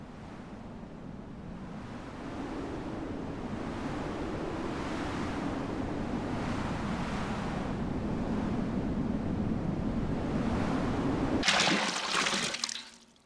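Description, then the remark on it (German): Steady roar of ocean surf with gusting wind, swelling in slow waves, ending in a bright, loud rush of water like a breaking crash before it cuts off. “Dann Wasser.”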